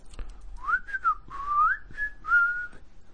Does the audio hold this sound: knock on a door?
no